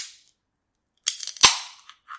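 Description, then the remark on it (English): A homemade reclining sex chair, built with a stick welder, creaks and shifts as someone lies in it, giving two sharp cracking snaps amid a short burst of rustling, scraping noise, then a faint final creak. Nobody speaks. “That's me laying in a reclining sex chair.”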